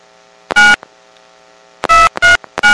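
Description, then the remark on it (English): Loud touch-tone keypad beeps as an area code and phone number are dialed to place a prepaid-card call: a single tone, a pause of over a second, then three quick tones in a row. No voices are present. “Please enter the area code and phone number you wish to call.”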